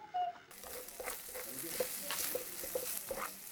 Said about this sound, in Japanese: 身が揺れてます。うわ、これは食べ時だろうな。これもジャストな感じですね、焼け具合が。うわー、このホルモンのうまいとこだけがジュッてきちゃったね。このタレとうまく絡んで、魔法のタレですね。